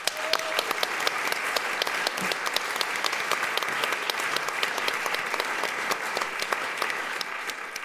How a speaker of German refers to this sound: Grossen Applaus für euch.